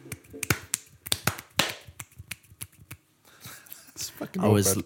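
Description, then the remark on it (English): A one-handed clap snaps out repeatedly in a quick, uneven rhythm, sharp and fairly loud, pausing briefly before a few more claps and a short burst of voice at the end. “That was a one-handed clap, yeah.”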